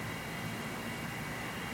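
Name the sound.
distant airplane flying overhead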